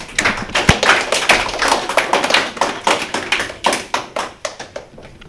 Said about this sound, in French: Applaudissez-les, s'il vous plaît.